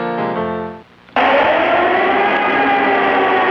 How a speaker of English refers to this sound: Air raid sirens over Bosnia this week as the situation in that shattered country became what radio commentator